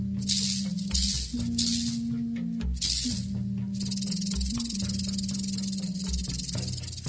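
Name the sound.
rattlesnake rattling its tail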